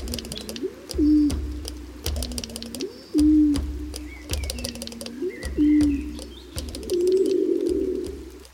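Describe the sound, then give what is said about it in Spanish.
A laurel pigeon (rabiche) coos in a laurel forest on the island of La Gomera in a steady series of deep, hollow, rising calls, about eight in all, with sharp crisp clicks scattered between them. “La paloma Rabiche estaba muy estresada y volaba a toda velocidad de vuelta a su nido.”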